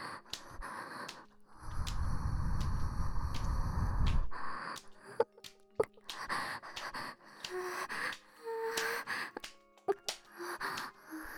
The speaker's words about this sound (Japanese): 今度はお耳に。ママの吐息、至近距離で感じて。